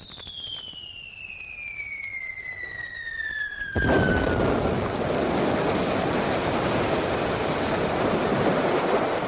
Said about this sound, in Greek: Τι ήταν αυτό? Βροντί ήταν, παπαγάλε μου, βροντί. Συγκρουστήκανε δύο σύννεφα ψηλά στον ουρανό.